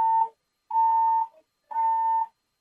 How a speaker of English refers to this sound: I want to let you know the fire alarm is going off in D.C. Superior Court right now.